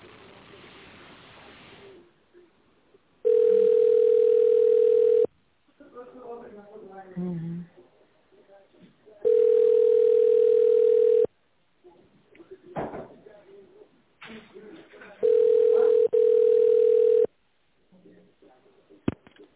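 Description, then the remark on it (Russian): Three long, steady mid-pitched telephone ringback tones, each about two seconds, repeat at even intervals while waiting on the line to the corporate office of the travel company Susanin, with faint murmuring voices and clicks in the gaps. “Если вы знаете внутренний номер абонента, наберите его. Авиакасса 1, авиабронирование 2, ЖД-касса 3 или дождитесь ответа.”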